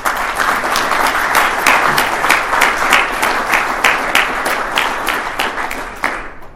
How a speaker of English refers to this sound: I want to say first, congratulations to all of the award winners, and I'd like if you wouldn't mind giving them a round of applause first.